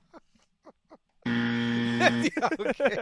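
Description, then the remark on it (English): A loud, harsh game-show wrong-answer buzzer blares for about a second, flat and droning with dense harmonics, then people start talking right over its tail; faint soft speech comes just before. “You love the buzzer.”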